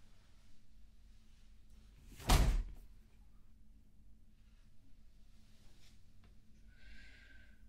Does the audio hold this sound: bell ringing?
no